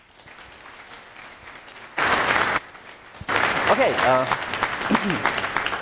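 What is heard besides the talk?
audience applause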